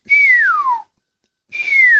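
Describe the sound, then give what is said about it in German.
A starling gives two loud, piercing whistles, each sliding downward in pitch and lasting under a second, with a short pause between them. No voices are heard. “Das sind mal so ganz laute, durchdröhnende Pfiffe.”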